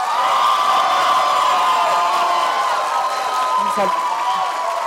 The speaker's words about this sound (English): We're asking the audience to not cheer in between questions. We're trying to keep it respectful.